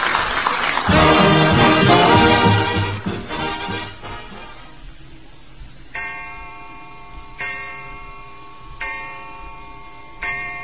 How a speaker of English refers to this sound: Great heavens, there's the chime. Already it's dinner time.